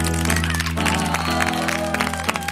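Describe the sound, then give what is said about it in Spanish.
Hands clap in a loose rhythm along with a bright, sustained musical backing, the sharp claps cutting through the steady tones of the song. “Si tú tienes requete muchísimas ganas de aplaudir.”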